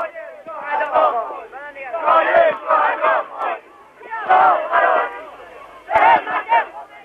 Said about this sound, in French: Toute la ville est descendue dans la rue, des centaines de milliers de personnes.